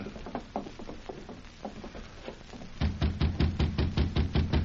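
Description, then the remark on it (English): Knocking on the wooden door of Pegleg Prindle's locked room at the end of the hall, with no answer: scattered, softer raps at first, then a louder, steady run of quick knocks, with no voices. “Don't seem to answer the door.”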